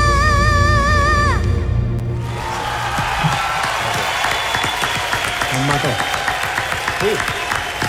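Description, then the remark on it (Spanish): A sung note fades out over music, then a crowd bursts into loud, steady applause that carries on to the end, with a few scattered whoops mixed in. “Aplauso afuera.”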